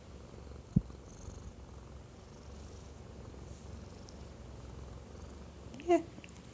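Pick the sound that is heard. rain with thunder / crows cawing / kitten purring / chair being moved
kitten purring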